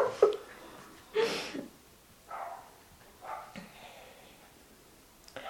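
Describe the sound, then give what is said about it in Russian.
A large dog lets out a handful of sharp, loud barks at irregular intervals, with snorting, breathy sounds between them and no talking. “Она вот это, на всю Ивановскую. Надо ее к собачьему психологу отправить.”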